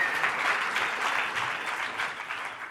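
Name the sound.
round of applause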